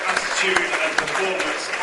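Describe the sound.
An audience at FC United of Manchester claps for the 2016-17 Academy Player of the Year award in a dense, steady wash of applause with a few sharper individual claps standing out, while an announcer over a loudspeaker carries faintly beneath it.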